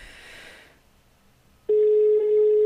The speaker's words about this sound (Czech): tak já mu zavolám nazpátek. Já jsem vás teď nechtěl přerušovat, takže uvidíme, už nám to zvoní